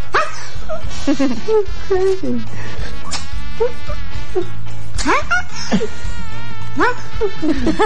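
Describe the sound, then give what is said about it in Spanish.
A kitten raised among dogs, taking on dog-like postures, gives a string of short, high, yelping bark-like cries, fairly loud, repeating irregularly over a steady background hum while people talk. “Y ladra, po. Y dice, wow.”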